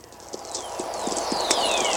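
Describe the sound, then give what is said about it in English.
Thunderstorm electrical energy picked up by NASA low-frequency (VLF) radio receivers in the Antarctic and Arctic: irregular sharp crackling clicks over a steady static hiss, with several high whistling tones, called whistlers, gliding smoothly downward in pitch, growing slightly louder throughout. “This is what the electrical energy of the thunderstorm sounds like when picked up with low-frequency radio receivers”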